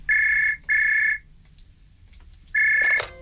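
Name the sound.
old telephone ringing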